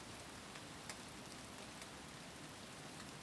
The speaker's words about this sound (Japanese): 他にもね、雨の時にしか聞けないような音がたくさんあるの。